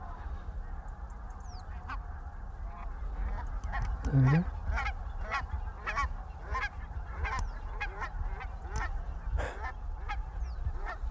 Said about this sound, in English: Just those three geese just in front of the sunrise. Beautiful. All of them coming at us now.